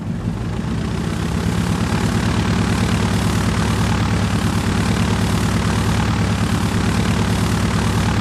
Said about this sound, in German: So klingt eine U-52, das Flugzeug, das den Namen Junkers weltberühmt gemacht hat. Und natürlich steht auch eine Tante Ju in zentraler Position im Technikmuseum.